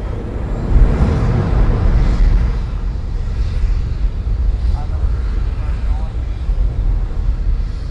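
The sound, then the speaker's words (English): A rocket engine test, heard from inside a building where its vibrations can be felt, gives off a deep, continuous low rumble with a roaring, noisy texture. It swells heaviest in the first few seconds, then settles into a steady, slightly fluttering drone. “When the rocket tests start up, there's a low rumbling sound, and I can feel the vibrations throughout the building.”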